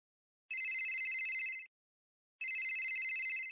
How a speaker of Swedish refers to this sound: Jag vaknade av att telefonen ringde. Jag visste inte hur lång tid den hade ringt eller hur länge jag hade sovit.